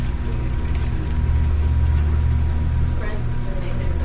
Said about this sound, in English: I'm going to turn this air conditioner off.